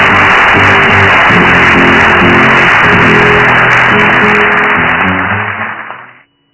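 A large audience applauds Francisco loudly and steadily for about six seconds, with a low droning hum of voices or music underneath, before the clapping fades out quickly.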